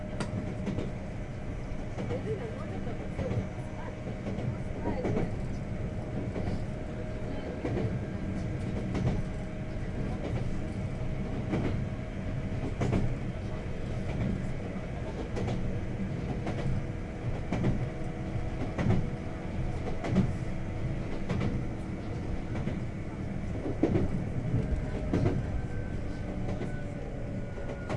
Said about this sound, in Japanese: 普通電車の熱海行きで次は城ヶ崎海岸です。